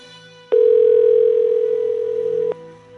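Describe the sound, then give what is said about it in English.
A single steady electronic ring tone from an outgoing phone call sounds for about two seconds, then cuts off, heard through the line with no one answering and no voices. “Don't tell me they're not answering the phone because of this dude.”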